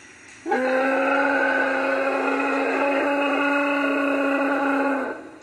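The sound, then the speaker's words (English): A single deafening T-Rex roar, like a dinosaur sound effect, bellows for about four and a half seconds, steady and tonal with a rough growl, loud with no other sounds. “And suddenly, it let out this deafening, god-awful roar.”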